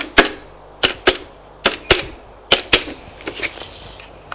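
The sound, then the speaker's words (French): A telephone number being dialed in an office: about a dozen sharp, crisp clicks in an uneven rhythm, often paired, strong at first and growing softer and quicker near the end, with no voices. “Elle réfléchit et prend son téléphone. Fait un numéro.”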